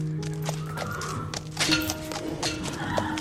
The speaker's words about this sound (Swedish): En av gårdens stoltheter är hästen Fiona. Hon är ett rödbrunt halvblod med vita helstrumpor och en vit bläs.